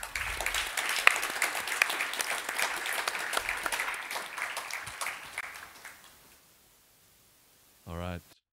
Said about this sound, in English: All right, thank you to our panel. One more round of applause for them.